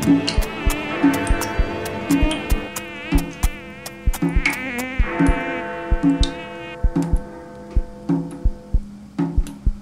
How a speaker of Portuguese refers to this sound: Zumbi do mosquito de noite.